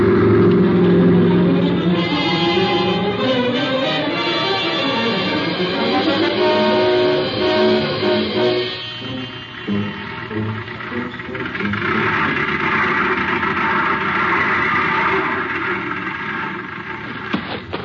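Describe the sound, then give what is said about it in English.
A truck engine drives up, its loud, rumbling pitch rising and falling through gear shifts, then settles into a steady, lower idle for the last several seconds. “Say, isn't this old Bob McDougal's truck?”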